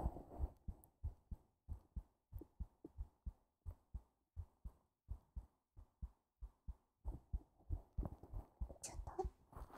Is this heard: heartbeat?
yes